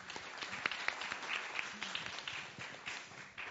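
An audience applauds steadily, a dense wash of many overlapping claps with sharp individual hits poking through, holding at a moderate level for the whole stretch before thinning slightly at the end.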